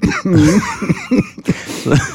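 A series of harsh coughs in quick succession from a man with a tickle deep in his throat, several bursts with short gaps between them, loud and raspy with no talking.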